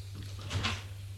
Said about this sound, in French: François a ouvert la porte et la referme.